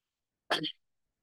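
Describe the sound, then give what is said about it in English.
A single short, forceful sneeze made by voice, an imitation of someone pretending to sneeze rather than a real sneeze, bursting out clear in otherwise silence. “Everyone is pretends that you are sneezing.”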